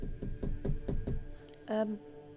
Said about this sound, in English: She's going to knock on the door.